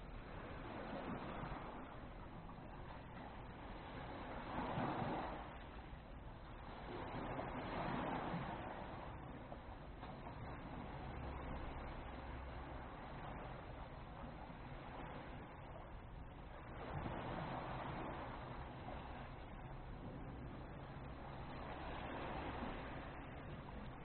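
Steady rushing sea surf on a beach, with waves swelling and breaking on the shore every few seconds in a slow, continuous rhythm. No voices, just the ongoing wash of water, moderately loud.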